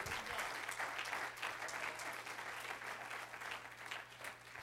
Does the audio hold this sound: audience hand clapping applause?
yes